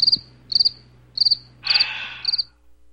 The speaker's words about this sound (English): could I have some crickets, please?